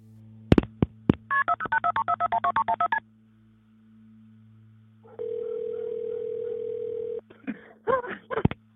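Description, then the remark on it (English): A few sharp clicks, then a quick run of touch-tone dialing beeps, a pause, and a steady electronic ringing tone over a faint low hum, a phone call from Alex Murdaugh to Hampton County Police Dispatch at 10:07 p.m. on June 7th, 2021. No one speaks. “At 10:07 p.m., Hampton County Police Dispatch receive a shocking phone call from Alex Murdaugh himself.”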